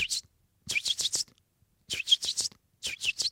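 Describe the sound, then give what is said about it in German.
Young blackbirds that cannot yet fly, spread around a garden, giving their location calls: short, scratchy, high-pitched notes in quick bursts of four or five, repeated with brief pauses, fairly clear against a quiet background. “Das heißt, die Jungamseln äußern permanent sogenannte Standortrufe.”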